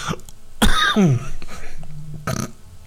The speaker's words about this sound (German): Oha, das war mal ein dicker. Jetzt baut er schon die Huster in das Intro ein.